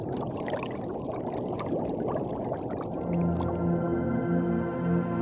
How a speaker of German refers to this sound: Ich gewöhne mich an meine ruhige und quasi neue Atmung hier unter Wasser mit dem Sauerstoff des Tauchgerätes. Beim Ausatmen steigen kleine Luftblasen auf und dringen zur Wasseroberfläche vor.